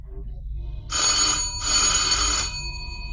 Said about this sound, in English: At that moment, the doorbell rang.